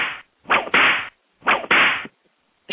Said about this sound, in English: It's just like you're like, whoosh, like your head goes from one side to the other so fast because you're like, what did he just say?